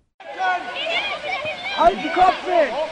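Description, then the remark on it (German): Dozens of children's voices shout and call over one another on a football pitch on a Saturday morning, some chasing the ball and others calling out loudly to get it, with a few dull thumps like a ball being kicked. “Samstag früh am Fußballplatz. Dutzende Kinder rennen dem Ball hinterher, andere wiederum versuchen sich lautstark bemerkbar zu machen, um ebenfalls das Spielgerät zu ergattern.”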